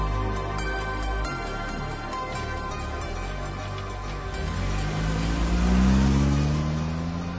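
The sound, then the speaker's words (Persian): A 2015 Toyota Hilux Black Edition pickup truck engine idles with a steady low rumble, then revs up in a rising sweep around the middle, holding loud before easing slightly. No voices. “خب یه ماشین خوب دیگر هم انتخاب کردیم، یه ماشین خیلی مردونه، ماشین کوه و در و دشت، تویوتا های لوکس بلک ادیشن مدل 2015.”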